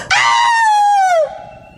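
A single loud, high-pitched, blood-curdling scream held for just over a second, its pitch sagging slightly downward before it breaks off abruptly, leaving a faint ringing tone behind.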